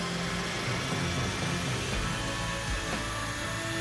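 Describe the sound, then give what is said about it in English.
An aircraft engine starting up, heard from the cockpit, a dense, steady roar layered with high whining tones that hold level and shift slightly partway through, with no voices. “Never heard one of those fire up from sitting in the cockpit.”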